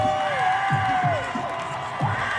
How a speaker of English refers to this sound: Now, you're going to hear him cheering, and that's them cheering as he's being carted off.